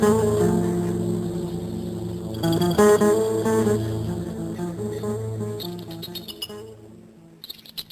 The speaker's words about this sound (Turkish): Ah maşallah çok güzel ötüyor.